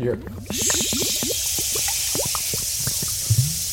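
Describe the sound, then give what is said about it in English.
Water from a water skin glugs and splashes steadily as it is poured down a smoking chimney on a flat roof, a burst of bubbly gurgles over a rushing hiss that runs for a few seconds, loud. “And I take my water skin. All right. Yeah. And I pour it down the chimney.”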